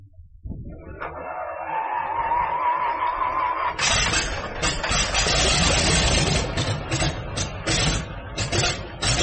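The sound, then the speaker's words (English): A propeller airplane engine cranks with a steady whining starter, then catches and bursts into a loud, rough roar that sputters and pulses unevenly as it settles toward idle. “Clear off the propeller.”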